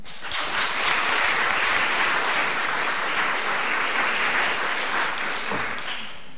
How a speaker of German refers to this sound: Und zwar die Ministerin für Bundesangelegenheiten, Europa und Medien von NRW. Einen großen Applaus bitte für Frau Dr. Angelika Schwaldüren.